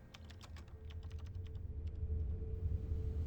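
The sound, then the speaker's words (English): Rapid, irregular keystrokes clatter on a computer keyboard for a few seconds, moderately loud, over a steady low hum with no one speaking. “I'm already typing.”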